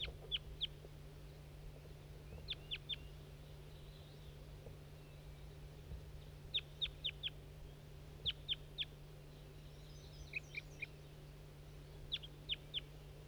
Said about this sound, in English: That's that wild bird that was tubing.